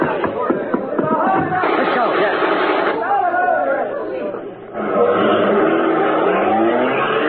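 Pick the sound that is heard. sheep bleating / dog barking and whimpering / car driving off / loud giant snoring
car driving off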